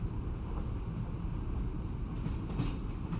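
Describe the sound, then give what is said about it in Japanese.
A train rolls along steadily, its deep continuous rumble filling the space, with faint rail clatter surfacing now and then. No voices, just the even, unbroken drone of the ride. “ほら、目を閉じて列車の音に耳を澄ませながらゆっくりゆっくり夢の世界に落ちていってください。”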